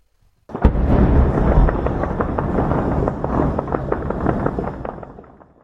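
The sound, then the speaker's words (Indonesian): A dense, continuous crackle of celebratory gunfire, tracer rounds and fireworks bursts echoing over Beirut, Lebanon, as a 10-day ceasefire between Israel and Lebanon takes effect, sharp pops and bangs overlapping loudly for several seconds before slowly thinning out. “Tembakan perayaan, tembakan peluru penanda, dan kembang api menerangi langit Beirut saat gencatan senjata selama 10 hari antara Israel dan Lebanon mulai berlaku.”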